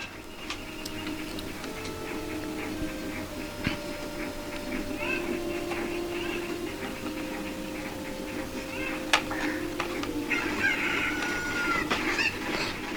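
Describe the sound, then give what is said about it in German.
Chickens cluck softly and intermittently in a busy outdoor setting, with scattered clicks and a steady background hum running throughout. “Papa, wo sind denn die anderen Hühner?”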